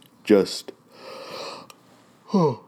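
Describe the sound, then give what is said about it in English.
A drawn-out yawn: a short voiced groan, a long breathy inhale-exhale stretch, then another groaning vocal sweep at the end. “God, fuck, I'm sorry, I'm yawning.”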